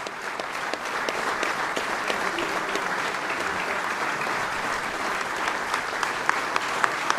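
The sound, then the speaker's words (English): Sustained applause from a large audience at a ceremony honoring David Bellavia, with President Trump among those applauding; a dense steady patter of many hands clapping at even loudness with a few sharper claps standing out near the end. “President Trump among those applauding David Bellavia.”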